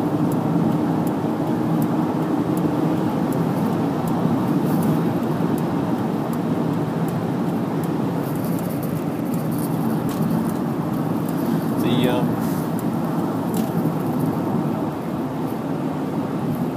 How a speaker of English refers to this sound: The ute overtook the car in front, and I was starting to wonder if he was going to overtake me, even though I just overtook him, which would be hilarious and annoying.